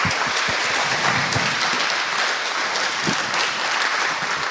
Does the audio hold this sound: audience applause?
yes